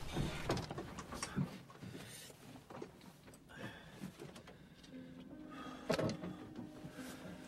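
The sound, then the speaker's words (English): Van back doors clunk open with a few sharp knocks and rattles, followed by shuffling and thumps of a man climbing inside his van, fairly quiet with a faint squeak partway through. “Randy opens the back doors of his van and climbs inside.”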